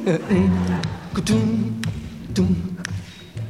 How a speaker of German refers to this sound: Wenn Sie wollen, können Sie wieder mitschnippen. Everybody schnippi.